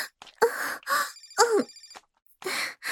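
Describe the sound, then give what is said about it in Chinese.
A phone ringtone for an incoming call from an older sister plays a bright, repeating electronic melody over about three seconds, mixed with breathy, groaning vocal sounds that come in short bursts with a brief pause near the end. “哎，是姐姐的电话。”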